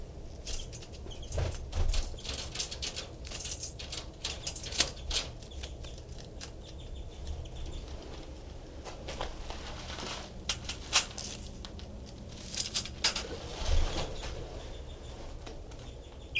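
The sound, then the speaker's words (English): A pet bird in its cage, imitating a finch, gives a few short, high finch-like chirps in scattered bursts, mixed with soft wing flutters and rustling over a low background hum. No one speaks. “That was him giving a finch imitation.”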